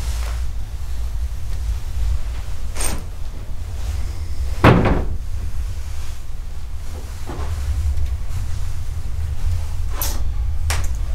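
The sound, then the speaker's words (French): A door that will not stay shut swings back open and bangs shut several times at irregular intervals, the loudest thud near the middle, over a steady low rumble of wind or engine noise with no voices. “Ah, la porte qui se rouvre, mais c'est pas possible, elle doit pas tenir.”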